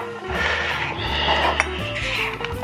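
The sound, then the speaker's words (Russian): A knife cuts lengthwise-sliced eggplant into cubes on a cutting board, giving a few irregular, sharp taps over a steady background hum, with no one talking. “Вот у нас только что порезаны на продольные фрагменты баклажан, и мы его нарезаем.”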